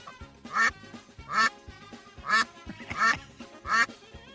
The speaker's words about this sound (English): While they were eating, a duck randomly wandered into the place.